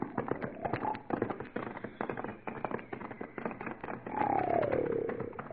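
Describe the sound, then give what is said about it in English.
A loud, rattling gargle of a snore from a man sleeping in a wagon: a stretch of rapid, rough pulses, then a louder wavering tone near the end that slides downward. No one speaks. “Well, no wonder he's sleeping. Sounds more like he's gargling with sheep dip.”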